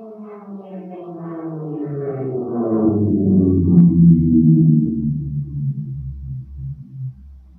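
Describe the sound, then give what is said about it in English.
A jet airplane passes, its droning engine tone gliding steadily downward in pitch from the Doppler effect, swelling louder midway and then easing off slightly, with no voices. “similarly, if you listen to, say, a jet airplane, now normally they're too high to tell, but if one comes near you, say you're at an air show or something, does the pitch of the airplane change as it comes towards you and goes past?”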